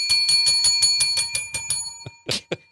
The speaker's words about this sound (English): I'm just trying to make her feel like there's a lot of bells around.